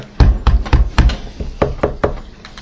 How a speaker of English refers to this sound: I knock on the door.